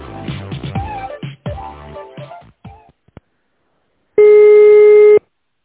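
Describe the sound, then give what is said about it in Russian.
A busy signal on a telephone line: one loud, steady electronic tone lasting about a second, coming after a few seconds of voice-like sound and a short pause. “Сейчас абонент разговаривает, поэтому если у вас что-то срочное, просто оставьте голосовое сообщение, а я оповещу абонента по СМС.”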